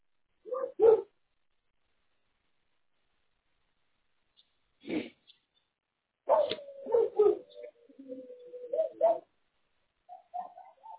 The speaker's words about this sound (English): You hear the dogs in the background? Yeah, it sounds like one of them might be a hound dog. He sure sounds like one. Yeah, I hear one that kind of has that little howl to it.